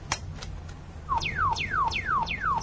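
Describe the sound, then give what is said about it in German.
A tracking receiver, switched on to locate a transmitter, gives its electronic signal tone in a steady rhythm. Each beep is a quick downward-sweeping chirp, about five in a row over a low background rumble, and the beeping grows fainter. “Das Piepen wird ja immer leiser.”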